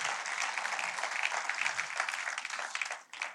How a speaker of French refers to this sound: Est-ce qu'on peut applaudir et encourager quelqu'un qui se tient aujourd'hui tout seul?